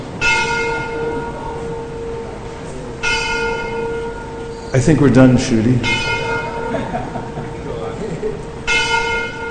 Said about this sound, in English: The bell tolls.